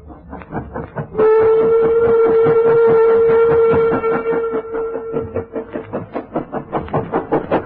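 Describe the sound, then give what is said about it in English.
A steam goods train puffs slowly up an incline on its run from Nottingham to Chesterfield in steady, rhythmic chuffs, and a loud, sustained whistle blast sounds over the beat for several seconds before the chugging carries on alone. “A goods train was puffing slowly up an incline on its run from Nottingham to Chesterfield.”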